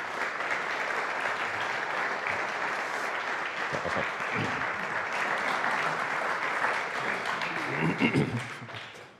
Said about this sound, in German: Begrüßen bitte mit einem warmen Applaus.